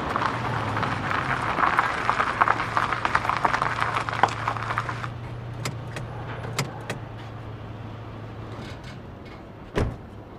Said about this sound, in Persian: ماشین فرهاد میاد تو گاراژ.